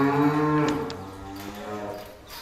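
A cow moos in one long, drawn-out low call that wavers and fades over a couple of seconds, loud with no talking.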